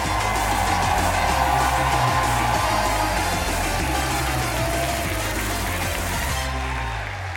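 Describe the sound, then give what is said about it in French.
A large live audience at l'Européen in Paris applauds and cheers loudly and steadily for Cyprien for several seconds at the first public 301 vues show, a dense wash of clapping over a low musical bed, easing slightly toward the end. “Installez-vous confortablement dans la salle ou devant votre périphérique de diffusion multimédia et faites un tonnerre d'applaudissements pour Cyprien.”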